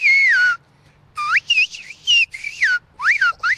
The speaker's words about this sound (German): Die Sprache, die wie Vogelgezwitscher klingt, heißt Sphiria, abgeleitet vom griechischen Verb für Pfeifen